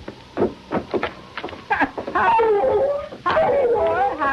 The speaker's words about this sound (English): Approaching the two-room shack that was a temporary home, he heard Misery barking a welcome.